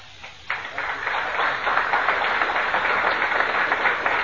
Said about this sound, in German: Applaus.